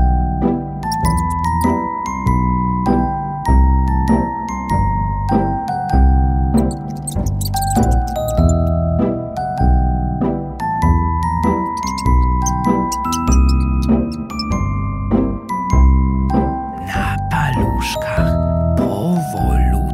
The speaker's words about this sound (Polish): Słychać cicho muzykę. Skradamy się.